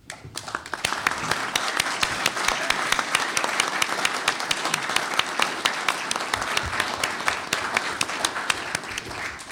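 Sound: audience applause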